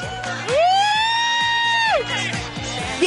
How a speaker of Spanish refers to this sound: Y a ver, por acá, el aplauso para el tercer participante.